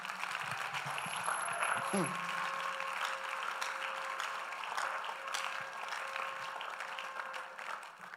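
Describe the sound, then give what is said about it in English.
An audience claps steadily for the whole stretch, a dense, loud wash of applause, with sustained keyboard tones and a few voices mixed underneath. “If you heard it, like, you clap better.”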